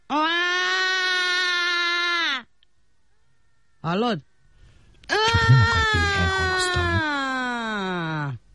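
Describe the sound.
A voice imitates a baby's wailing cry to show how babies cry: a long, loud sustained wail, a brief yelp, then a second drawn-out wavering wail, with a short spoken question in between.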